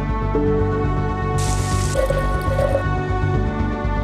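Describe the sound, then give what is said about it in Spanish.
Liquid drips and trickles into a glass laboratory flask, clear, with a brief hissing splash in the middle, all set over a steady, sustained tonal hum. “Esto es un matraz, un delicado recipiente cuya mezcla de ciencia, conocimiento y precisión permite dar con los atributos óptimos.”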